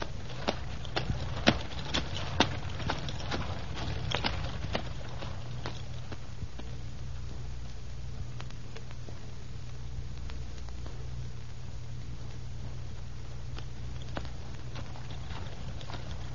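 Hooves of a donkey-drawn cart, driven by a driver on the way to a castle, clip-clop in a quick, irregular patter over a steady low rumble of rolling wheels, busiest at first and thinning out later. No one speaks.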